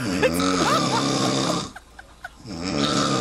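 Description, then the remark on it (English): Loud human snoring: a long rattling snore, a brief pause with faint clicks, then another harsh snore starting up. No one speaks. “Yeah, my husband's been snoring 40 years.”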